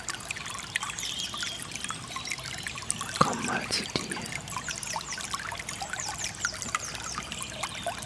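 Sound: water trickling and splashing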